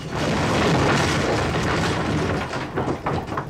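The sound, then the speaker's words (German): A loud, sustained crashing roar with deep rumbling and crackling debris as the burning roof truss of a theater engulfed in flames collapses, gradually breaking into scattered cracks and thuds toward the end. No voices. “Und dann gibt es einen furchtbaren Krach. Und der brennende Dachstuhl bricht in sich zusammen.”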